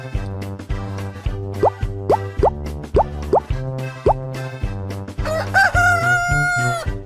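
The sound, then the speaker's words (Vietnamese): A loud rooster crow rings out near the end, a long drawn-out cock-a-doodle-doo, preceded by a series of quick plopping sounds over a steady, tonal background. “Gà gáy thật to, ó ó o o.”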